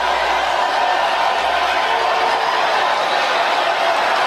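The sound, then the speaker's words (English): A large New York crowd, standing, roars with a dense, sustained wash of screaming and booing at Cruz, loud and steady throughout the few seconds, with no individual voice standing out. “Now New York is standing up and they're screaming. They're pissed. They're booing.”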